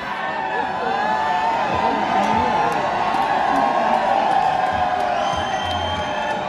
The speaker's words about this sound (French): Pour cette nouvelle année, la plus belle avenue du monde a connu beaucoup de cris et d'embrassades dans toutes les langues, en allemand, en arabe, en afghan, le même message de bonne année.